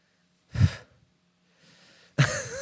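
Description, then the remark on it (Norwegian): Breathy gusts of air blown onto a hand: a short sharp puff, a softer hiss of breath, then a louder sustained blow at the end, with no talking. “Nå blåser du på hånden.”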